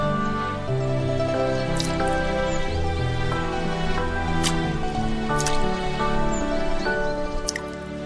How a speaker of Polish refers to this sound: Śniegi zaczynają topnieć. Z głębokiego snu niedźwiedzie budzi ciągłe kapanie wody wprost przed wejściem do gawry.